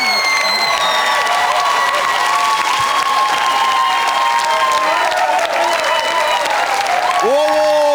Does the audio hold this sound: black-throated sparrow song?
no